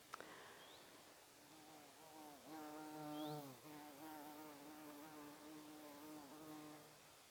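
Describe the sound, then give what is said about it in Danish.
A bumblebee flies past, buzzing steadily for several seconds, its low droning hum wavering and bending in pitch as it moves, swelling louder midway before settling back into a sustained buzz. “Jeg ved ikke, om du hørte det, men der kom lige en brumbas forbi og sagde hej.”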